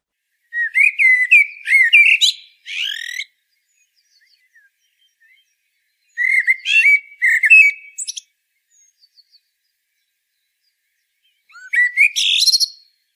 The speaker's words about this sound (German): Dann ein Vogel, den wir alle kennen, die Amsel, in Eurasien und Nordafrika verbreitet.